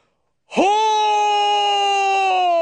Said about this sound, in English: There was a long scream that rose over the sound of the water.